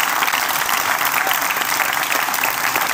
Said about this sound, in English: Again, you heard the applause. This is a religious audience. That speech was literally at the Museum of the Bible.